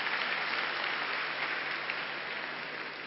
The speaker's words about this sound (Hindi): हाँ, जोर से तालियां बजा लीजिए।